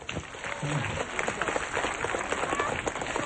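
An audience applauds a 12-year-old boy from a children's backyard rosary circle: a dense, steady patter of many hands clapping at once, moderately loud and sustained for a few seconds without a clear rhythm.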